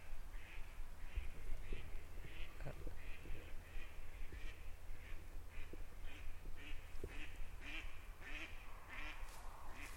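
A mallard duck quacks over and over in a steady series of short, nasal calls, moderately distant, with a constant low rumble of background noise and no voices.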